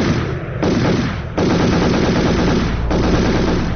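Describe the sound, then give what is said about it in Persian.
Sustained bursts of celebratory machine gun fire in Kabul, fired by young people celebrating a cricket team victory, rattle continuously, dense and loud, with brief lulls between volleys and overlapping shots suggesting several guns firing at once. “اما ایده از جوانان احساساتی ای پیروزی را با فایرهای مسلسل و پای هم تجلیل کردن که ای اقدام آرامش مردم در شهر کابل و سایر شهرها برهم زد.”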